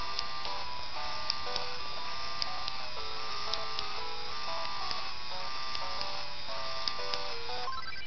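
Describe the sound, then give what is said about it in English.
A small Game Boy Printer runs steadily for several seconds, its motor giving a buzzing whine that shifts between pitches in short steps, with faint clicks scattered throughout and no talking. “Alright, we'll turn the printer on.”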